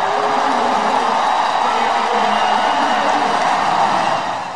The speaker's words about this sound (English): You hear the crowd roar as he comes into the game.